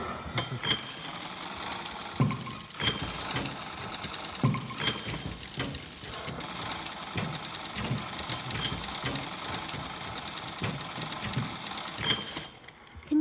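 A sewing machine runs steadily with a whirring motor and rhythmic mechanical clatter. It carries on at a moderate level for several seconds, briefly easing near the end, with no one speaking.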